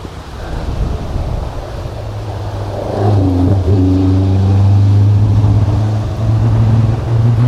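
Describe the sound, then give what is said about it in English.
A race car with a rough-running, faulty engine drones steadily at a motorsport event, its low, uneven hum swelling as it comes round, with gusty wind noise rushing over the microphone on a windy day. “Oh dear, it sounds a bit rough. He's got a problem with his engine there.”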